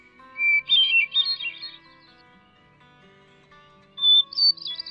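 A hermit thrush, a small thrush with olive-brown wings and back, a rust-colored tail and a white eye ring, sings two clear, fluting phrases separated by a pause, each opening on a sustained pure note and breaking into rapid, ethereal trills, heard alone against a quiet background.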